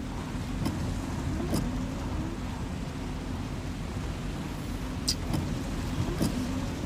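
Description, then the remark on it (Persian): Windshield wipers sweep raindrops off a car's wet glass in a few brief swishes, spaced irregularly over a steady low engine rumble inside the vehicle. No one speaks. “برفاکن قطره های بارون از روی شیشه ماشین بهمن کنار میزنه، تصویرشو پشت فرمون نشون میده.”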